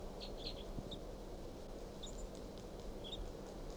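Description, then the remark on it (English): A wild male bird, low in a pine and looking down at decoys, chirps softly, giving a handful of brief, high, scattered peeps over a steady low rumble of background noise. No one speaks. “Start recording 8:03, and this wild bird, male, is low in this pine, looking down at the decoys. And this is him chirping very softly.”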